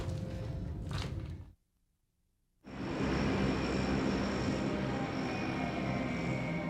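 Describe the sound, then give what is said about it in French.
Engines of a fleet of American B-52 bombers deployed at Kaysan during the Tet Offensive drone in a loud, steady roar, drop out for about a second of silence, then return even fuller and sustained to the end, with no voices. “Une flotte de bombardiers B-52 américains et d'avions de frappe est déployée à Kaysan.”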